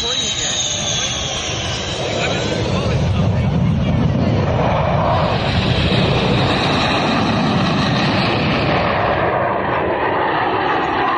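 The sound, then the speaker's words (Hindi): A Rafale fighter jet, landed on the Purvanchal Expressway in eastern Uttar Pradesh at its inauguration, roars loudly and steadily for the whole stretch, a dense rumbling blast with a high whining edge that shifts early on, while muffled voices are faintly buried beneath it. “यह बताने के लिए कि एक्सप्रेसवे विकास की हर गति का द्योतक है, रफाल नामक नवीन आयातित हमलावर विमान को उतार दिया गया।”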